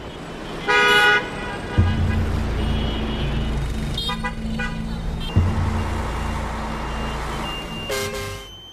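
Steady engine rumble of heavy street traffic in Hanoi, Vietnam, with several car horns honking at intervals: a loud blast near the start, a shorter cluster midway and another toward the end.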